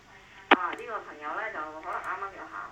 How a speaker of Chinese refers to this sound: 喂喂。啊，这个朋友呢就可能刚刚又走开了噃，因为我都听到他的电话，即是他可能听着收音机。